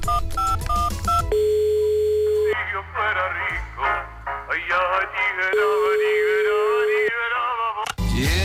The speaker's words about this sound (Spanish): Teniendo el teléfono como tenemos aquí. Pues claro, marca. Espera, a ver.